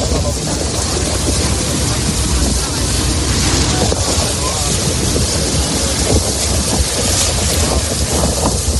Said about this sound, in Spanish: Con el cielo un poco nublado, con viento del sur, los barcos, buzos y marineros han vuelto a la mar. Así ha sonado esta primera jornada.